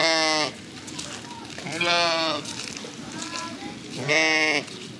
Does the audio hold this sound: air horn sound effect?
no